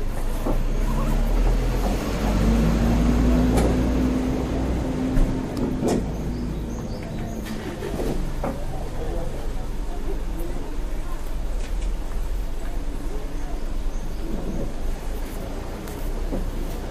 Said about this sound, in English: See, now this is more my speed. This is more, you can hear some birds, you can hear some people kind of chit-chatting, but nothing crazy. Yeah, that is really nice. It gives you the kind of, you know, sidewalk cafe in Paris kind of feel.